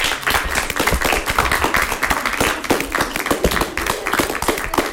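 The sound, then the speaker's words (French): A crowd applauds steadily throughout, many hands clapping in a dense, continuous patter at a fairly loud, even level, with no speech heard. “Je vous applaudis pour votre écoute.”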